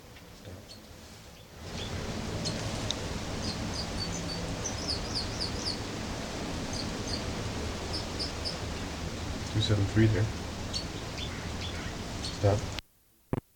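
bird song

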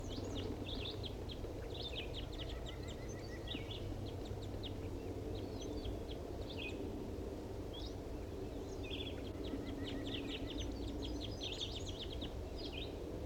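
wild bird calling

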